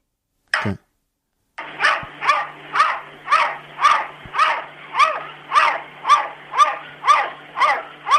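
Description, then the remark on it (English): A cat barking out of a window makes a steady, rapid string of about a dozen loud dog-like barks, preceded by one short descending cry and a brief pause. “This is a cat who has learnt to bark like a dog.”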